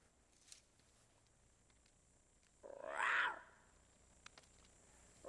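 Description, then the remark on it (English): A lion cub lets out one short, squeaky little roar, rising and fading within about a second, heard alone against a quiet, faintly hissing background. “So watch this first clip. Little roar.”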